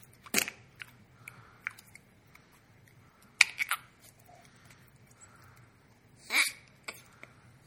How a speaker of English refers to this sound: You know, for a fart putty, it really doesn't sound farty enough.